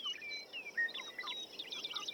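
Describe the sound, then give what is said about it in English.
Several birds sing at once in a busy chorus of high, quick chirps, trills and whistled notes, overlapping continuously, with no voices present. “That birdsong, more than any other sonic element of nature, appears in our classical music, appears through the ages, that birdsong is music to our ears.”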